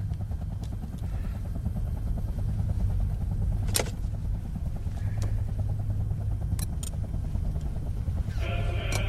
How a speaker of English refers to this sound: The chopper takes off, lifting the car with him in it. He holds on as the car's lifted